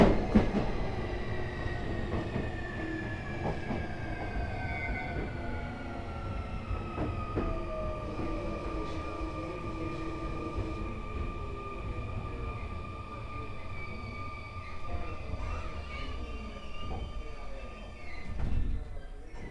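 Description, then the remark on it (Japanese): A local train bound for Ebina, stopped at a station platform and waiting for a connecting express, its steady electric hum and low rumble running throughout, with occasional clanks and a brief louder swell near the end. “発車までしばらくお待ちください。泉の線湘南台方面はお隣2番線でお待ちください。”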